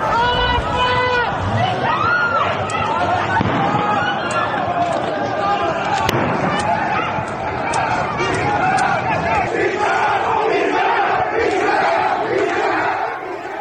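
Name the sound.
protesters chanting slogans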